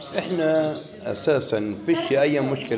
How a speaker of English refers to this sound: By a hot iron stove in his family's living room, his wife roasts potatoes and calf hearts. Their pet birds sing